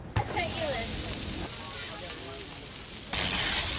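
Steady hissing sizzle of food cooking on a hot griddle at a food truck at a farmers market in downtown Baltimore, fairly loud, swelling in two bursts, with faint voices murmuring in the background.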